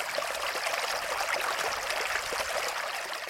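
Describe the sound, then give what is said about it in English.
Water flows steadily from a spring, a continuous bubbling and trickling with a bright, splashy texture. No voices, just the even, unbroken rush of running water. “There's definitely a musicality to the sound of water.”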